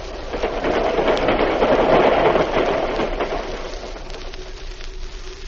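A train rumbles steadily with a dense, hissing roar that gradually eases as it pulls into a station, a faint squealing tone emerging near the end. No voices are heard.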